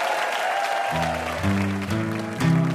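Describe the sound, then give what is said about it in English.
Audience applause for guests Alex Bloomberg and Adam Davidson after a team wins, a dense, steady clapping that runs throughout, joined after about a second by music with a low bass line stepping through sustained notes roughly every half second. “And one more round of applause for our VIPs, Alex Bloomberg and Adam Davidson.”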